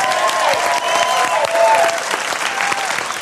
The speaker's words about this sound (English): You can cheer and clap if you want.